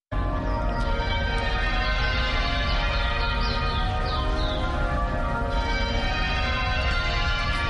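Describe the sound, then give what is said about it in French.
The bells of St George's Anglican Cathedral in Cape Town, where Desmond Tutu was archbishop, peal continuously and loudly for ten minutes, their overlapping metallic tones ringing together in a dense, sustained wash of sound with no voices present. “Les cloches de la cathédrale Saint-Georges sonnent pendant 10 minutes.”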